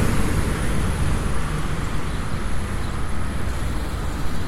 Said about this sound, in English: I like to wait till a car comes from behind us to go, so I know that nobody's going to come flying around that corner.